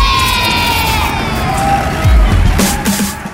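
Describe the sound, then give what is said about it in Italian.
A crowd cheering effect played on a live Radio Dinamo broadcast: a crowd cheers and shouts over a steady wash of noise, with a few whistles and higher voices rising above it; the din stays loud throughout the short burst. “Applausi, grazie Tandori.”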